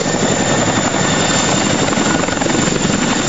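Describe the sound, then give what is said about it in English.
A helicopter roars loudly, its rotor thumping in a steady, rapid beat over a dense wash of engine noise that never lets up, during the rescue of people off the roof of a house that went underwater in a flood. “and then the house itself got locked up in some log jam, and all seven of them were able to get off the roof just in the nick of time through some boats and also through some helicopters before it went underwater.”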